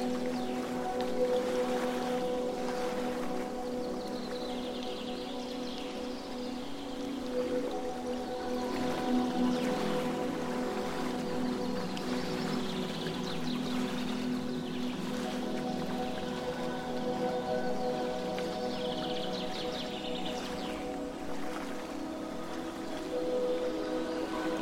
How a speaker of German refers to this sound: legst dich im Schatten eines Baumes an den See und hörst ihm leise plätscherndem Wasser zu.